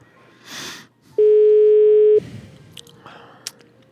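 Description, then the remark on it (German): A single steady telephone ringing tone from a phone call that goes unanswered sounds for about a second, fairly loud, with soft rustling and a few faint clicks before and after it. “Man muss auch manchmal beharrlich bleiben beim Telefonieren.”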